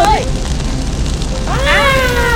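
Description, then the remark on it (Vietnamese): A steady, loud roar of a large house fire blazing fills the scene, with a crackling rush running throughout, while a person calls out excitedly over it near the start and again toward the end. “Úi trời, cháy to quá, cứu tôi với.”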